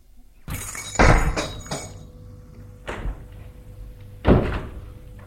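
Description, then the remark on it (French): A woman pulls her door shut with a cluster of rattling knocks and thuds, then two more heavy bangs follow a few seconds apart, with no voices over the quiet background. “Elle a fermé sa porte et il monte jusqu'à l'étage.”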